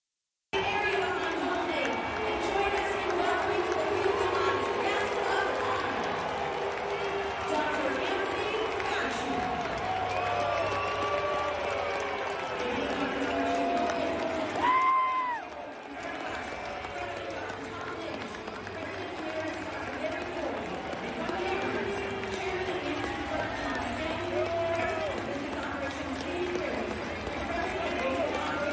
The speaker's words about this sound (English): Daily Wire, Fauci booed as he walks out to give first pitch at the Seattle Mariners game.